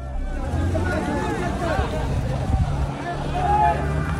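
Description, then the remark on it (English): A huge crowd of mostly young men around aid trucks on the beach in Gaza City, racing to take food, fills the scene with dense, overlapping shouts and chatter, with a steady low engine rumble from the vehicles running underneath throughout. “Earlier this week, aid trucks reaching the beach in Gaza City were met with a huge crowd of mostly young men racing to take what food they could.”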